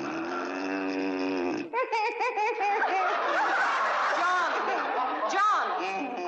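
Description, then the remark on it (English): A loud, buzzing, exaggerated comic snore, made by a man's voice as a husband snoring, drones for a moment before breaking off into overlapping talk and laughter. “there must be something that'll put a stop to that hideous snoring.”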